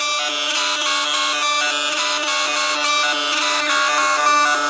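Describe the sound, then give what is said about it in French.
Experimental electronic music made by converting the brain's electrical waves, picked up by electrodes on Pierre Henry's head, into electronic sounds: dense, buzzing, harmonic-rich tones held at a steady loud level, with faint warbling pitch shifts and a printer-like mechanical chatter throughout. No voices. “C'est les ondes électriques du cerveau que l'on transformait en ondes électroniques.”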